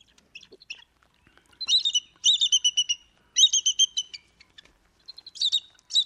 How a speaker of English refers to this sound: We've got a little bald eagle sound right here chattering away.